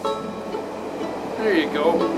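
The Canadian passenger train rolls steadily through the Rocky Mountains in Canada with a continuous broad rumble, joined near the end by brief metallic squeals from the wheels.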